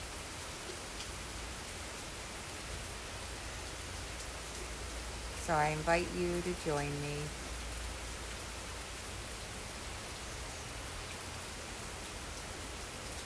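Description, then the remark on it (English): Steady outdoor rain on a morning makes a constant soft hiss throughout, with a calm voice speaking briefly near the middle over the downpour. “I was sitting outside this morning and listening to the rain and the birds”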